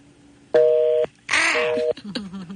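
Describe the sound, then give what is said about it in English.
Two loud keypad tones from a new telephone system sound in succession, each held for about half a second, the second overlapped by a harsh noisy burst, followed by faint clicks and a short beep. “New phone system. There we go.”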